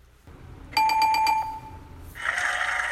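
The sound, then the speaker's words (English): A bright correct-answer chime in a word quiz, marking a point awarded: a quick run of about five ringing, bell-like notes that sustain briefly, followed by a burst of broad, hissy noise. No one speaks. “Did you hear the correct answer noise?”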